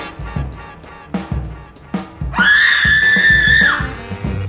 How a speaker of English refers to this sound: This is what I heard the word on the street about when Stephen Harper got in. Woman screams.